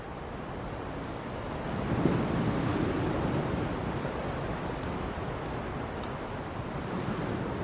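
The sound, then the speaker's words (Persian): Steady surf rolls in with a continuous broad hiss, a wave swelling and breaking a little louder early on before settling back into a constant wash, mixed with some wind rumble and no voices. “وقتی به دریا نگاه میکنم فکر میکنم اون اونجاست و داره تماشا میکنه.”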